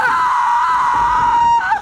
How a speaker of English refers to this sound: Picking it up, Anna plunges it into La Llorona's chest. Anna screams.